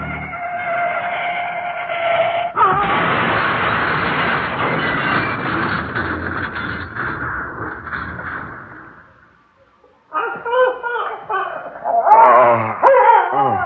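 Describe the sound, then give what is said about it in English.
After a long, harsh screech and rumble of a car crash fades into a brief silence, a dog whines and howls in rising, wavering cries, fairly loud. “Is that your dog?”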